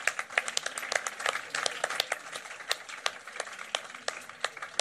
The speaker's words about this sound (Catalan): Un aplaudiment pel mal alumne, si us plau.